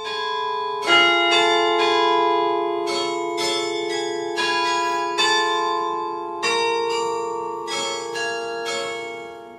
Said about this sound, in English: The church, which also boasts a carillon that resonates through Chalons every 15 minutes, is on the list of UNESCO World Heritage Sites. Listen.